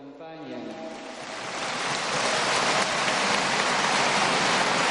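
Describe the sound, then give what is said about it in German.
A voice trails off at the start as a large crowd applauds the Pope after he lists the names of Amazonian peoples, the clapping swelling into a dense, steady roar of many hands that keeps building to the end. “Und für dieses Wahrnehmen dieser Realitäten bekommt er Applaus.”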